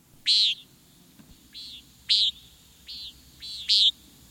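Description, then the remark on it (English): Five buzzy, nasal calls of a common nighthawk ring out at roughly even intervals, each a short harsh "peent," fairly loud and clear over a low, steady background hum. “It's the flight call of the common nighthawk.”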